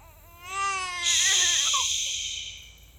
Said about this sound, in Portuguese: Os bebés choram quando estão com fome. Os bebés choram quando estão cansados.